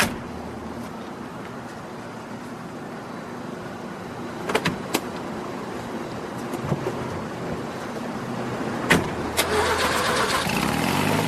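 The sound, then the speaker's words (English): Steady car-interior hum with a few sharp clicks and knocks, then an engine turning over and revving up near the end. No one speaks. “This is your car? It's an undercover vehicle.”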